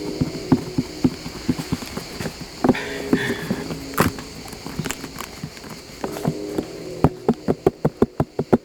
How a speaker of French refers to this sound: Ah oui, alors le son du poivron.